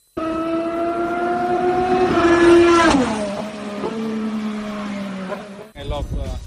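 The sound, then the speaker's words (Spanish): A loud IndyCar race car engine on a road circuit screams with a high, buzzing whine, revs climbing then dropping sharply as it shifts down, settling into a steadier drone before a voice briefly speaks at the end. “Si queréis oír cómo sonaba el coche y qué dijo Alonso, esto es, bueno, aquí tenéis las dos cosas”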